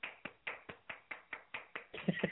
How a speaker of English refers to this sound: you hear my applause? Yes, we can hear your applause. That was really good.